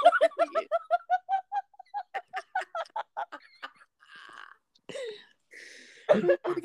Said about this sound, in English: Oh, I had to cough. So it was like, oh.